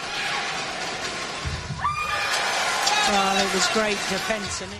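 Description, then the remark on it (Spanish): A tennis player's loud, strained shouts ring out with the strokes, putting pressure on the opponent: several high, wavering cries rising and falling over a constant wash of background noise. “Tus gritos, es una cuestión a veces controvertida, escucha.”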